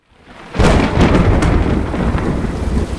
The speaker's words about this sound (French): Nous sommes le 13 juillet 1788. La foudre frappe la France. Le souffle de l'orage traverse le pays. Des Landes jusqu'à la Belgique, la grêle tombe. À Poitiers, Chartres, Paris, Douai, des grêlons de plus d'un demi-kilo ravagent les paysages.